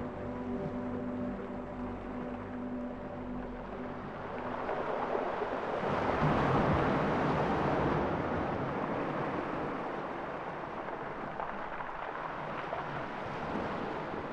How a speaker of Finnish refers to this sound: Meri hakkaa talon kulmaa. Laituri on betonia ja tyhjä.